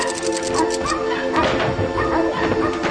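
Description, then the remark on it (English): Dogs, named as Bummer and Lazarus, bark and yip in a busy, overlapping burst, with whimpers mixed in over a steady background hum, fairly loud throughout. “Who left those dogs in here?”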